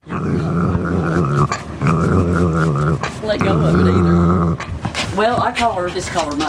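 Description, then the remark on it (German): A small dog named Muffins, belonging to an unemployed woman who lives in a trailer in Charlisle, Kentucky, growls in three long, rumbling bursts with brief pauses between them. The growls are loud and are followed by a few higher, whiny yips toward the end. “Der kleine Hund Muffins ist ihr bester und treuester Freund.”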